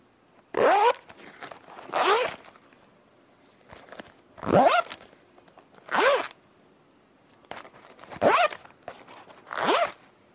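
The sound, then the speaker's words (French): A small pencil case zipper is pulled open and shut seven times in quick back-and-forth strokes, each a short rasping zip with a rising whine, with brief pauses between and no voices. “Non, ce n'était pas un sac de couchage, ni une tente, mais une trousse.”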